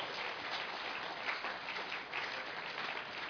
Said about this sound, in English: So I just want to honor you, all of you. So let's everybody clap for everybody right now one time, all right?